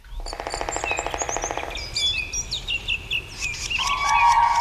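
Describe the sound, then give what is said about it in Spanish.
A common crane breeding duet in the boreal taiga forest, the male calling and the female answering: a rapid run of loud, rhythmic, harmonic trumpeting calls, followed by scattered high chirps from smaller birds and a steady tone near the end. “escuchando un sonido atípico de la grulla, que es un dueto”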